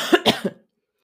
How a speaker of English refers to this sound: So, the first health problem, as you can hear, probably, is that I'm under the weather. If you're under the weather, you're not feeling very well, but it's nothing very serious. So I have a sore throat. I'm coughing.